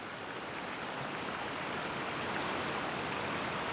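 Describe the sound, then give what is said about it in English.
A steady, unbroken rush of running water trickles along a cracked curb and pours into a gutter, a constant hissing wash with no voices or other sounds. “A stream of water flows along a cracked curb into a gutter.”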